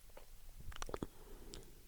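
swallowing

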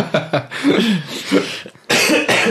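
a cough

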